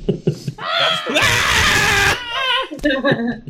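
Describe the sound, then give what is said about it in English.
A voice imitates a child's terrified scream at a film's alien scene with Sigourney Weaver: one loud, shrill, strained shriek lasting about a second, with brief bursts of panicked vocal noise before and after. “She sees Sigourney Weaver, she's freaking the fuck out. Screaming.”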